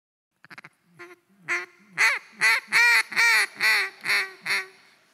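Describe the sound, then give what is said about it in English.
A duck call blown in a rapid series of about ten nasal quacks, starting with soft short clucks and building to loud, evenly spaced quacks, with no voices. “Because I know they're sitting on the edge of their chair saying, oh, I hope he blows those duck calls.”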